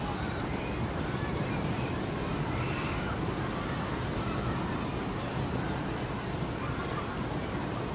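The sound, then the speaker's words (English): Storm wind and rain roar over a ballpark during a baseball game in a steady, unbroken wash of noise, heavy in the low rumble, holding at an even loudness for the whole stretch with no distinct pauses or gusts. “Storm is engulfing the ballpark.”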